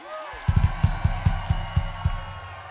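Concert audience in Detroit, at the Majestic, cheering and clapping for a band from Colorado, a busy crowd din punctuated by about eight heavy, evenly spaced thumps, like stomps or beats, at a moderate level.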